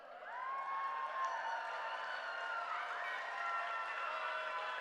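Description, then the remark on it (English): An audience claps after a poem is recited, steady for about five seconds, a dense, even wash of applause with a few cheering voices rising above it, holding at a constant level throughout. “Clapping is not how we do it.”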